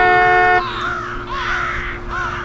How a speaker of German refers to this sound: Krähen flogen verärgert auf, als Mr. Andrews auf die Hupe drückte.